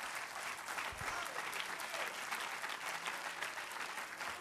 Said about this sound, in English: Let's clap our hands into him again and bless his name.